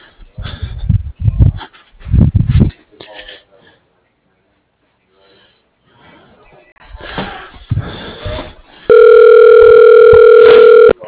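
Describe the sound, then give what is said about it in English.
Muffled voices and rustling give way to a loud, steady electronic telephone ring tone that holds one unbroken, buzzy pitch for about two seconds at the end. “It's ringing. It when it rings, it will connect with me.”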